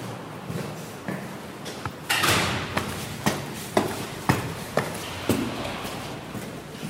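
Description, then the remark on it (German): A door opens with a brief scraping rush of sound, followed by a steady series of evenly spaced footsteps walking in across a hard office floor, with no voices. “Ach, die Tür ist auf.”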